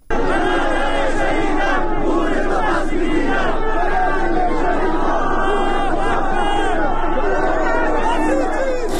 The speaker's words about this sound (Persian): ساعتی پیش و پس از سخنرانی مولوی عبدالحمید در مسجد مکی زاهدان، صدها تن از نمازگزاران تظاهرات اعتراضی برگزار کردند. تظاهر کنندگان شعارهای علیه رهبر جمهوری اسلامی و سپاه سر دادند.